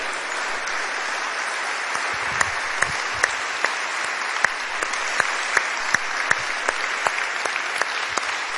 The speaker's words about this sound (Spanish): Sí, Señor, dale un aplauso al Rey.